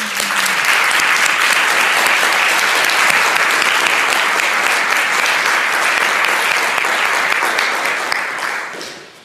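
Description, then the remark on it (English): A large audience claps steadily and loudly for about eight seconds to celebrate the trustees. It is a dense, even wash of applause that tapers off at the end. “And we can celebrate them with applause, too.”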